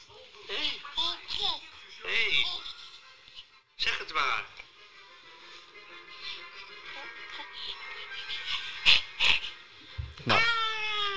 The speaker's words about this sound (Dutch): Dit is dus babygeluid.